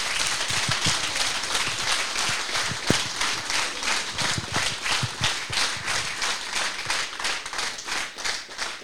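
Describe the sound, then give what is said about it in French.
An audience breaks into sustained applause to thank the town of Pontac for its support, a dense wash of many hands clapping at a steady, even loudness for about nine seconds, with no voices standing out above it. “Merci beaucoup, je pense que déjà on peut applaudir.”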